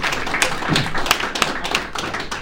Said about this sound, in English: We're going to have to cut it off here due to time. But join me in, giving another round of applause to. Thank you.